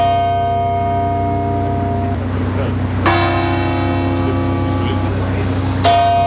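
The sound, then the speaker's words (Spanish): Deep church bells of the Almudena Cathedral toll slowly for mourning, three loud strikes about three seconds apart, each ringing on with a long humming resonance that blends into the next. “A esa hora las campanas de las iglesias tocaban en señal de duelo, como las de la Catedral de la Almudena.”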